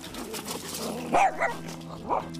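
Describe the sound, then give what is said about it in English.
A small male dog, 4.5 years old, lets out three short, high barks with a whiny, whimpering edge, the first two close together and the last after a pause, over a steady low background hum. “he was me and my girlfriend's first dog that we got in college.”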